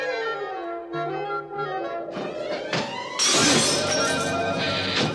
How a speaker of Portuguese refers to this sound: Ah, não! Dois espelhos quebrados no mesmo dia! Quanto azar um Smurf pode ter!